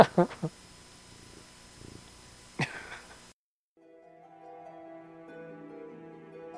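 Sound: cat purring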